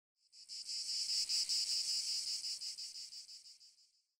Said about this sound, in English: You ever heard of cicada before? Yes, I have. Okay, for those of you who haven't, we're going to give you a 2-second clip of what it sounds like.